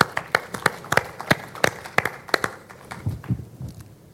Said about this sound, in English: For this, we want to express our most sincerest thanks to you guys, our Windows Inc. app development community. This wouldn't have been possible without your partnership and dedication, so please give yourself a greatly deserved round of applause.